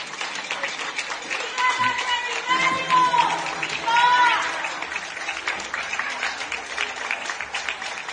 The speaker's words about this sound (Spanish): Así se aplaudía a los sanitarios a las 8 de la tarde por el gran esfuerzo y el gran trabajo que estaban realizando.